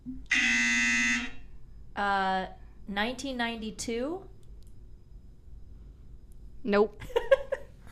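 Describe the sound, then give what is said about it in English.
A loud, harsh game-show buzzer, hit by quiz contestants guessing answers, blares for about a second, followed by a second shorter buzz, then people talk briefly in the background. “You don't have to hit the buzzer each time if y'all are just not knowing.”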